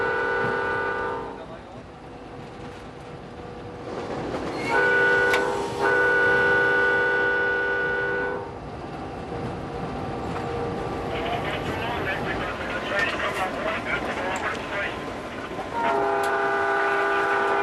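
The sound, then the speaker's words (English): The horn of the Coast Starlight passenger train sounds three long, steady, chord-like blasts separated by gaps, over the continuous rumble and clatter of the train rolling along the tracks beside the ocean. “I love running the Coast Starlight right along the ocean.”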